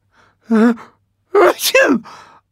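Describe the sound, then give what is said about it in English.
A single loud sneeze: a short voiced intake, a brief pause, then a sharp, breathy burst that trails off into a fading voiced tail. “I can't stop sneezing.”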